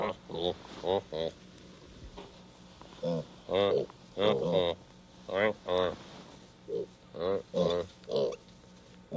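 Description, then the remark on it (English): Real one-month-old piglets, huddled together and brought from the farm by Mr. McFeely, let out a quick, irregular string of grunts and squealing oinks, over a dozen short bursts with brief pauses between them and no one talking. “They're real pigs.”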